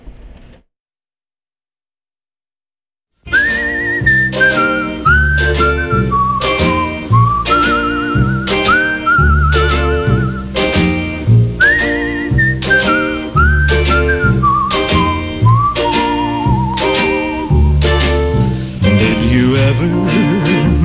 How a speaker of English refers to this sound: Let's play some more music. Songs with whistling.